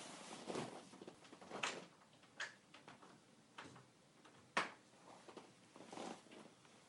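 A door being opened or closed, heard as a faint, irregular series of knocks and clicks, with no voices.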